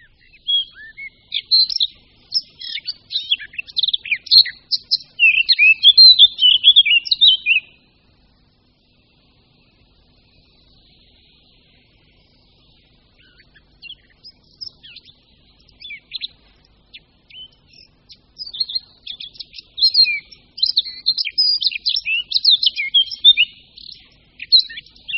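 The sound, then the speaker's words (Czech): A Eurasian blackcap sings clear, rapid warbling phrases, one burst lasting several seconds, then a pause and more fluting song building again, fairly loud with no other sounds. “Jeden z nejkrásnějších a nejhlasitějších ptačích zpěvů, který u nás můžeme slyšet, patří pěnici černohlavé.”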